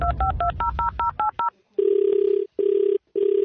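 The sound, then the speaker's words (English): A quick run of about nine touch-tone dialing beeps, then a telephone ringing tone heard down the line in three steady, buzzy pulses with short pauses between them, as a prank call is placed to a Checkers store. No voices. “Who is Rory phone tapping today?”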